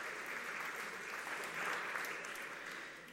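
A crowd claps steadily, a dense wash of many hands swelling slightly in the middle before easing off, with no voices standing out above the applause.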